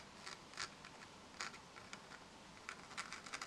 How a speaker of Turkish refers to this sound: Elindeki kurşun kalemle deniz ve camiden oluşan bir İstanbul manzarası çizdi.